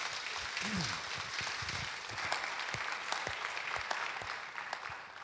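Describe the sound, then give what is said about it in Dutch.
A standing audience claps steadily for several seconds to give guests a warm welcome, a dense, sustained wash of applause, with a few brief voices calling out beneath it. “Dan gaan we ze even met een heel warm applaus welkom heten.”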